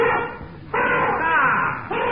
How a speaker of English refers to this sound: Sweet, Blanca, sweet. That's the only musical elephant in the world.